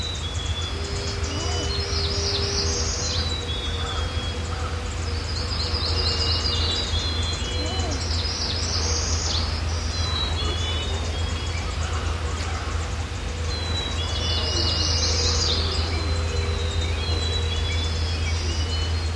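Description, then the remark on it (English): Several songbirds sing an early summer dawn chorus at Sunshine on Deer Isle, Maine, in overlapping phrases, with bright repeated bursts of song rising and fading, while a steady low rumble like an engine hums underneath. “You are listening to an early summer dawn chorus on Sunshine in Deer Isle, Maine.”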